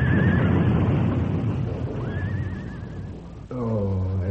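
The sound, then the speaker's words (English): A horse pulling a buckboard neighs shrilly as it rears and backs up, with a brief whinny at the start and a longer, wavering one midway, over a dense rumbling commotion as the buckboard overturns and plunges over the side of a ridge, giving way to a lower, throaty call at the end. “Fool horse. The way he reared and backed up, I jumped off that buckboard just in time.”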